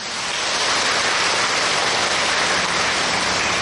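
An audience at a Buddhist dharma talk breaks into sustained applause, a dense, steady wash of many hands clapping that holds at full strength for several seconds with no voices over it.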